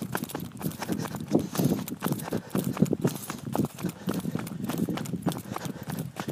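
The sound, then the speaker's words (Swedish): Steady, quick footfalls of someone running downhill on a dark road toward a lake at about 7:30, evenly paced, each step a crisp thud on a hard road surface, continuing throughout with faint outdoor ambience. “Och nu springer jag in på det totalt mörk.”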